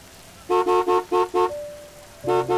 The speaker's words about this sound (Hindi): Taxi वाले भैया के बार बार हॉर्न मारने की वजह से मुझे वहां से निकलना पड़ा।